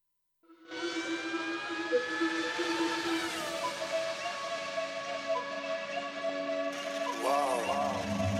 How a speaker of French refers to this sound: Bah, d'ailleurs, dans le premier morceau, on entend des petits bruits de voitures en fond.